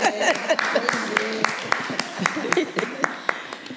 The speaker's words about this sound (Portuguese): E penso que estamos de parabéns e merecemos uma salva de palmas.